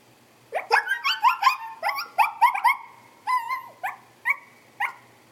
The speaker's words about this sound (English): The Sekomko yelped and ran to hide behind the rocks.